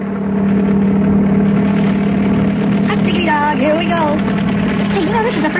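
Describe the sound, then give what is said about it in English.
A helicopter flying fast carries passengers: its engine runs with a steady, loud droning hum and a low tonal whine throughout, while a voice briefly sounds over it in the second half. “Hey, you know, this is the first time I ever flew in a helicopter.”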